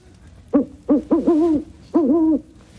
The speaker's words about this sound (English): What's that? Just an owl.